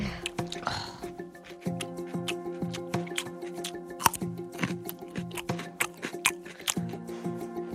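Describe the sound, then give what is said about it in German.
Wet, sticky lip smacking from someone chewing food, a steady run of irregular clicks and squelches lasting several seconds over a low background hum. “Ich schmatze überhaupt nicht. Doch, tust du.”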